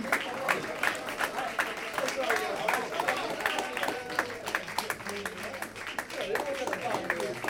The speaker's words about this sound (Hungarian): Nagyon szépen tapsoltak.